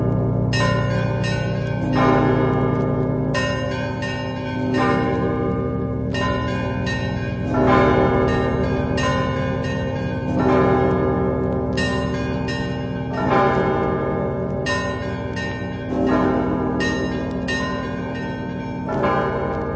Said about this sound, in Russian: Да, я хотел бы, чтобы вы послушали один из основных ростовских звонов, просто классику из классики. Это звон называется Егорьевский или Георгиевский звон Ростова Великого.